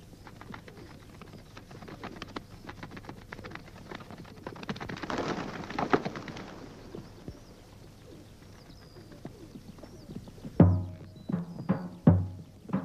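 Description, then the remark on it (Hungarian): Pigeons coo softly over a low, steady background hum, then near the end a few sharp bursts of wing flapping break out as birds take off. “Ne tess csak a galambokat.”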